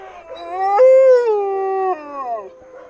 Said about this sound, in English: All the dogs join in, but there's one, Bandit, that can't quite get a howl going. He's mostly dog, and not all dogs can make that noise. But something in him still makes him want to join in with his pack.